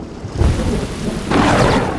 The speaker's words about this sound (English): Sometimes sunny and blue and warm. Sometimes filled with a thunderstorm. She looks up at the storm.